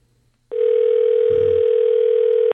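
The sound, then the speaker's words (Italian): A single steady, mid-pitched telephone ring tone sounds on the line as the radio show La Zanzara calls Professor Lutwak in America, loud and unbroken for about two seconds, then stops abruptly; no one speaks. “Sentiamo un po' se ce l'abbiamo il professore in collegamento.”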